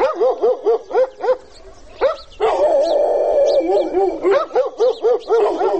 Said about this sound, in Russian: Впрочем, периодически этот плотный слой тишины разрывает остервенелый лай собак.